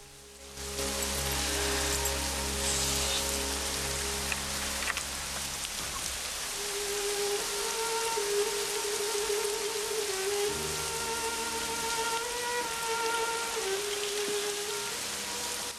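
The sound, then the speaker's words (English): Heavy, steady torrential downpour hisses throughout as a woman returns to a house, a dense wash of rain pounding surfaces, with sustained musical tones droning and shifting beneath it. No one speaks. “returns to the house in the torrential rain.”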